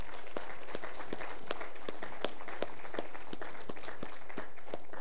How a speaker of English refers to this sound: If you served our country, stand to your feet. Let's give them a round of applause if you would, please.